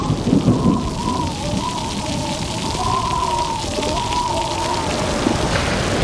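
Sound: heavy rain falling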